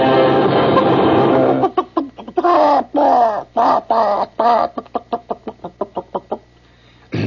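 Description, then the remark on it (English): A voice imitates a clucking, singing chicken: a burst of noise, then drawn-out warbling squawks that break into quick, rhythmic clucks, loud with no other talk. “Did you hear my singing chicken?”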